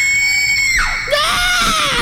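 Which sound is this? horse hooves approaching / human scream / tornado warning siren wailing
human scream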